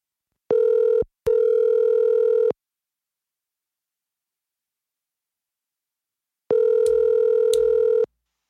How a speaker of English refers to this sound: Let's see if he answered the phone for us real quick. Hold up.